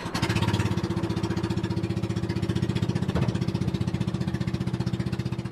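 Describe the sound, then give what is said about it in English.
A small fishing boat engine runs loud, a steady rapid chugging drone with a fast regular pulse throughout, no voices; a Makarascas fisherman's boat heading toward the Ulugan Bay base in the Philippines. “A Makarascas fisherman takes me out on his boat as close as we can get to the Ulugan Bay base.”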